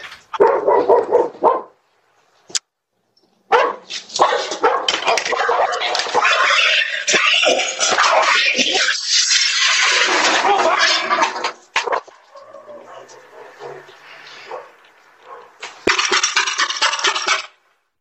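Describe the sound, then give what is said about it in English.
Doorbell camera footage: a dog on a house porch in Terre Haute, Indiana yelps in pain as a police officer approaches, sharp, high, strained cries in a long continuous stretch, broken by brief pauses, with other voices and commotion mixed in. “Well, that is pretty disturbing, without question, when you hear the dog yelping in pain.”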